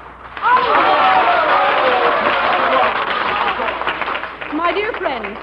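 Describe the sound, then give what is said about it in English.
An opera audience applauds loudly for several seconds at a curtain call, a dense roar of clapping mixed with many cheering voices, easing briefly before a final swell of shouts. “My dear friends, I thank you for your applause.”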